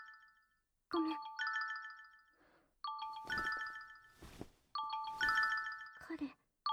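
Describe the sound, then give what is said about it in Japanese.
A smartphone ringtone for an incoming call plays a repeating melodic chime pattern three times, fairly loud, with brief speech and rustling between the rings. “私のスマホだ。”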